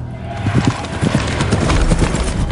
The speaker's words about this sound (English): At night, a cloaked, hooded figure rides through a forest on a horse. Bulgaria, 1492.